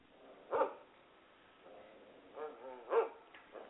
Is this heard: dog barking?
yes